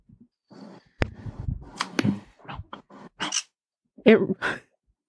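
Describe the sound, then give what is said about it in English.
A pet bird squawks and chirps in a string of short, sharp bursts with brief pauses between them, moderately loud, with no talking over it. “It really, I'm laughing at the bird, not at child abuse.”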